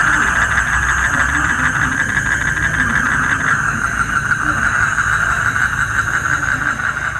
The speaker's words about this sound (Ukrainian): Сюрчить щось так, ніби великі коники-стрибунці. Я, чесно кажучи, чесно зізнатись, я не знаю, що це сюрчить, але бо, ну, звук я записувала цей ввечері, я не знаю, важко розгледіти, але я так думаю, можливо, це якісь дійсно коники-стрибунці,